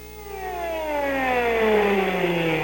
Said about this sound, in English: For the first time since the Six-Day War, the sirens were for real.